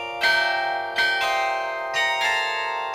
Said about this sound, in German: Völlig unklar, wie hier oben 22 Glocken eingebaut werden konnten. Es geht zwar eng dort oben zu, aber wir haben von außen mit einem Steiger gearbeitet. Da hat jemand von außen vom Steiger aus dann diese Glocken dort eingebaut.